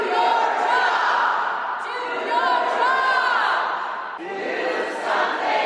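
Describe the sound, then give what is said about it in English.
At the Texas State Capitol, a large crowd of protesters shouts "Do something" together, demanding action on a bill raising the purchase age for AR-style rifles from 18 to 21: a loud, continuous roar of overlapping voices with chant-like calls that swell and dip across several seconds. “Protesters shouting, "Do something," demanded action on a bill that raises the purchase age for AR-style rifles from 18 to 21.”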